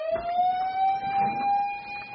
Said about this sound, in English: When the alarm sound goes off, smoke jumpers have 3 minutes to get dressed.